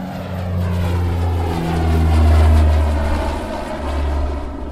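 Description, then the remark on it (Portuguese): A propeller airplane takes off and departs from an airport at five minutes to ten in the morning, its engines droning loudly and steadily, swelling to a peak midway and then easing slightly as the aircraft moves along. No voices are heard. “Faltando 5 minutos para as 10 da manhã do dia 25, o avião partiu.”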